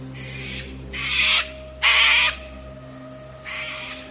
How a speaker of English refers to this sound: When discussing what they would do in whispers, a white cockatoo fluttered to the top of a tree, standing quite close to where the black demon lay asleep, and screeched his welcome to the coming day.